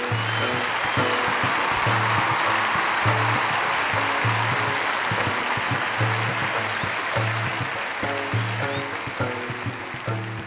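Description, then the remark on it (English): A dense, steady wash of audience applause welcoming a guest onto a show fills the whole stretch, with a rhythmic, tonal musical line running underneath and the clapping thinning slightly toward the end. “That's quite an applause there.”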